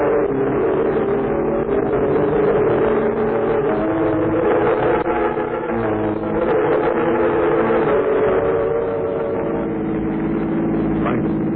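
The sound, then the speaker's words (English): A car engine runs steadily throughout, a continuous low droning hum with a slight rough texture, holding an even loudness from start to finish with no voices. “Wait till we get out to the car.”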